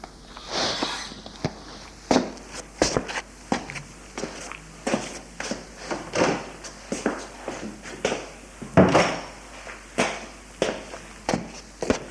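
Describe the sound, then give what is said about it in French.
Footsteps of two people walking out of a room across a hard floor, a regular run of moderately loud steps with short sharp scuffs, continuing for several seconds with no one speaking. “» Il se lève et ils sortent de la pièce.”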